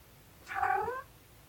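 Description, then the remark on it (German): A single drawn-out meow from a domestic cat as it joins in, rising and then falling in pitch over about half a second against a quiet background with no talking. “Meine Katze kommt gerade dazu.”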